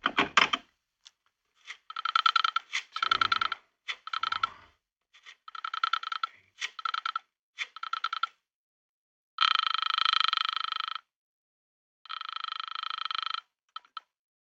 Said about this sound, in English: The telephone book. Listen, Mr. Avery, the sound of the flipping of the pages. Your daughter's phone number. Ah, here we are.